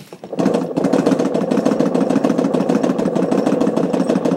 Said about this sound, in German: Das Geräusch, das wir gehört haben, ist der Filmtransport. Eine Kamera nimmt ein Bild auf, transportiert den Film weiter. Das Bild steht wieder still und wird belichtet.